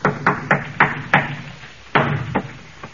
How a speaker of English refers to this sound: See? Hear those shutters banging? There's no wind out there.